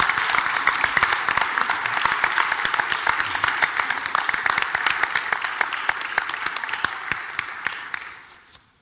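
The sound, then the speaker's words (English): A church audience breaks into sustained applause welcoming families coming to the front for a baby dedication, many hands clapping in a dense, steady patter that holds for several seconds before thinning and fading out at the end. “And as they're making their way up, just to encourage them and welcome them, why don't we just give them a big round of applause?”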